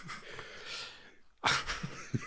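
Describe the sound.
A voice imitates a sneeze: a breathy, sniffing build-up, then one sharp, explosive burst followed by a brief snort and trailing breath.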